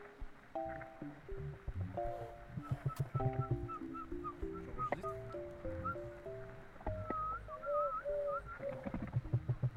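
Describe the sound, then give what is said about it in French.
Two birds trade calls back and forth, mixing steady whistled notes with quick rising chirps, fairly loud over a low rumbling background. “Les deux, ils étaient en train de discuter là.”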